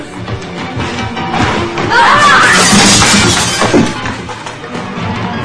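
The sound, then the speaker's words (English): A loud, jangling crash as a woman is pushed into a rack of metal kitchen utensils during a fight in a kitchen, with clattering and rattling that swells and then fades, amid scuffling. “David breaks free and pushes Juliet into the utensil rack.”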